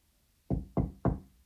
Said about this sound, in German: Aber die klopfen doch beide. Die klopfen beide. Das ist richtig.